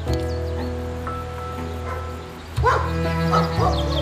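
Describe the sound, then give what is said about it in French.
Hunting dogs bark and yelp in scattered bursts, a few faint at first, then louder near the end, over a steady low engine-like hum. “Il y passait tous ses week-ends avec ses copains et ses chiens.”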